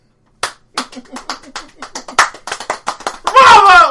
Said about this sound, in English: Bravo! Two-handed clap. What happened there? Where's the other hand? You said two-handed clap and then you threw it.